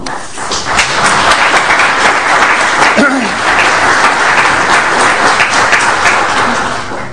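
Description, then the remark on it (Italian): Sustained applause from a crowd, a dense, steady crackle of many hands clapping that holds at a fairly loud level for several seconds without pause. “È significativo anche questo applauso”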